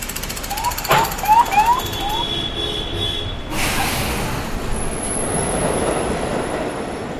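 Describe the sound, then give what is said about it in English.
A New York City subway train rolls into an underground platform with a steady roaring rumble, brief chirping squeals from the wheels early on, then a sustained high metallic whine as it brakes. “Below ground, a saxophone fills the subway platform silence, then a train pulls in.”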